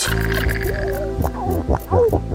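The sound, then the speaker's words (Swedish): Low, throaty grunts and drawn-out moaning calls of seals underwater, several overlapping, with a rough pulsing growl and a brief rising whine near the end, along with fish sounds. No talking. “Sälar som knorrar. Och fiskläten.”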